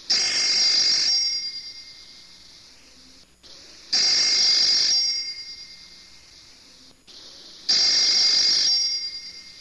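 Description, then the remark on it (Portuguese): A telephone rings three times in a steady pattern, each bright, trilling burst lasting about a second and then ringing out, with pauses between. Clear, no voices. “Quando de repente, sem avisar, o telefone toca.”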